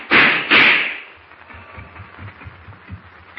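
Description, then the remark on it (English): Two loud gunshots fired at Clark Kent ring out in quick succession, each with a short echoing tail, followed by a few faint low thuds. No one speaks. “You wasted bullets, Deutsch.”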